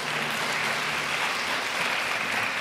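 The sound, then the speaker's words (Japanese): An audience at a special church worship service claps steadily, a dense, continuous wash of applause at moderate volume with no individual claps standing out and no voices over it. “なんか説教者ばっかりが拍手いただくんですけど申し訳なくて、ありがとうございます。”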